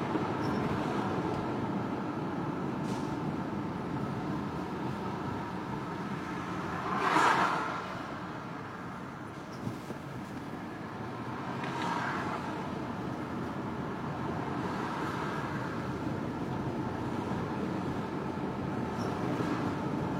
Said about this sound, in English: I'm driving a car.